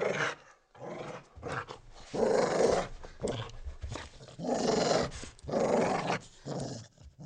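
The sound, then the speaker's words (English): A dog growls in a series of long, rumbling bursts that swell louder and then ease back, menacing and continuous, with no voices. It is the dog of Gautam Khan, a village farmer, left to guard someone. “He told me to wait and left his dog to watch me.”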